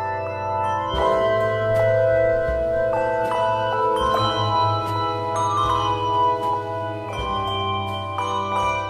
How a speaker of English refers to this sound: Many handbell choirs use bells and chimes. Bells are made of bronze, are heavier and more expensive. Chimes are long, flat instruments, much lighter in weight. Again, the choir chimes are made of aluminum, and so they're a mellower sound.